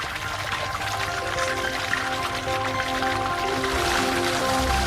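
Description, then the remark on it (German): Excess water is drained from soaked, softened soybeans in a factory, pouring and splashing steadily out of a container in a continuous gushing and trickling sound with no talking. “Das überschüssige Wasser wird wieder abgelassen.”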